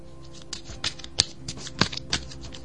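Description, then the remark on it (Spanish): A deck of tarot cards being shuffled, a series of crisp, irregular papery snaps and riffles spread over a few seconds, with no one speaking. “En fin, voy a barajar tus cartas.”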